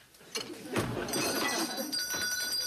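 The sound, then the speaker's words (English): A small bell rings, a few quick metallic strikes followed by a bright, shimmering jingle that keeps ringing steadily to the end. “Can I see that bell?”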